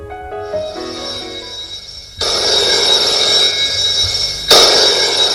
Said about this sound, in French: Un jour, le téléphone sonne.